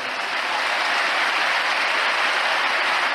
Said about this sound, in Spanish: Los aplausos para Sergio Ramos, que volvió a pedir perdón. Lo hizo en los medios del club en el día previo, lo hizo en la conferencia de prensa y luego lo hizo luego ante la afición.